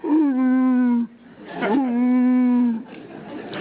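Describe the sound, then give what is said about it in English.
A human voice imitates an elk call with two long, loud, steady moaning tones, each starting with a brief upward swoop and held at a low, droning pitch, followed by a soft breath. “Elk make a sound that is something like this.”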